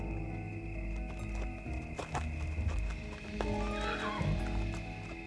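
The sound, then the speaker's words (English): A horse whinnies with a rising, wavering neigh while hooves clip-clop steadily, the sounds fairly loud over a low rumbling background. “I told them what was acting and I went to get me a horse.”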